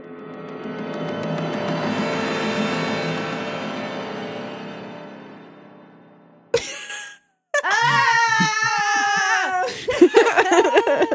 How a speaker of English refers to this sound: So the screaming has commenced.